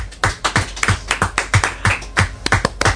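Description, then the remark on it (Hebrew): Rhythmic clapping after an answer on a true-or-false quiz, a steady beat of sharp claps roughly three or four per second, loud and unaccompanied by talk, like a small group applauding in unison. “לא נכון, כפיים.”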